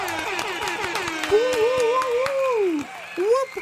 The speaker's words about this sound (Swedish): Och som vanligt, vi kör en applåd och en tuta på det, hörni!